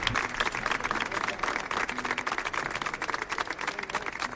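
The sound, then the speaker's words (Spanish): An audience applauds to welcome a band on El show del comandante Lara, with dense, continuous clapping that stays loud and steady for about four seconds, a crackling wash of many hands with some crowd noise mixed in. “Vamos allá, fuerte aplauso.”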